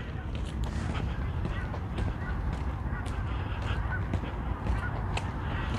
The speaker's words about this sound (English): Some geese off in the distance.